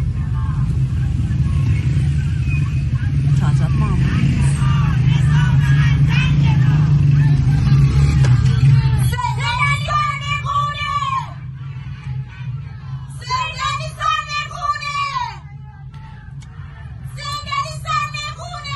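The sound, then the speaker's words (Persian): A street crowd of protesters on Sattarkhan street in Tehran, Iran, over a steady rumble of traffic and babble, then loud bursts of many voices shouting and chanting together in ragged waves, pausing briefly between outbursts. “مردم دوباره بعد از یک وقفه به خیابانهای اصلی شهرها آمدند.”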